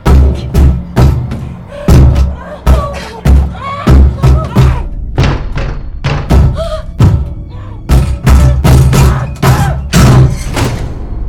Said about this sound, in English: In the cadaver drawer, Megan sits up and repeatedly kicks the door.